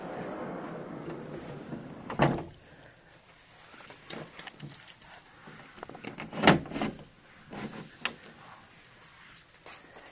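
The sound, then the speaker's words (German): A cabin door is handled and shut, with two solid clunks standing out among smaller knocks and rattles amid otherwise quiet surroundings. “Schließe die Tür, damit die Klimaanlage wieder anspringt.”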